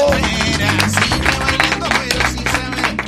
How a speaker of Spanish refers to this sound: En segundo lugar, los segundos más importantes, nuestro estimado público, al que despedimos con su propio aplauso.